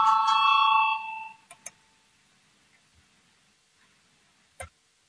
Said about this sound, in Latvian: Lūdzu zvanu balsosim par 155. Deputāta Krauzes priekšlikumu.